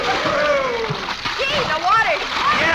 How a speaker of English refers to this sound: Well, come on, kids. Let's all run out and jump in the pool. Okay. Gosh, I hope the water isn't too cold.